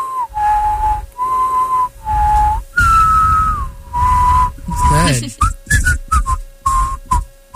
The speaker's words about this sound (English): Can you whistle on the inhale and the exhale or just the exhale? Both. Yeah, I can too.